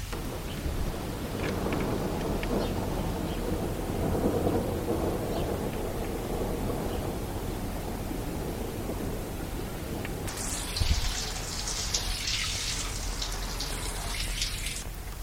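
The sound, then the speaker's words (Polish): Steady rain hisses over a low, rolling rumble of thunder, and about two-thirds of the way through a brighter, heavier wash of rain sweeps in. No voices are heard. “Ojej, zaczyna padać.”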